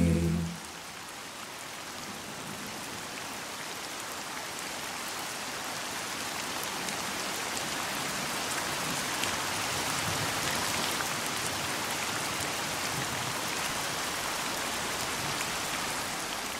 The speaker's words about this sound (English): With all the confusion, smoke, and dust, it's good to remember such a simple thing as rain, isn't it?